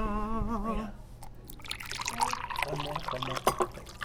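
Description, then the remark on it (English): A brief voice at the start gives way to tea pouring into a cup, a steady splashing trickle that continues for a few seconds with faint voices beneath. “It is time to pour the tea.”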